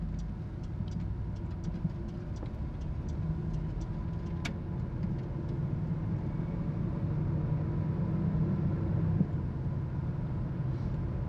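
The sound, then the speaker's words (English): A car's engine rumbles steadily, a deep continuous drone that swells slightly near the end, with no one speaking over it. “Here comes the car.”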